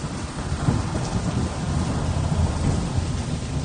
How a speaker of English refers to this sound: Thunder! You... Thunder! Thunder and the lightning!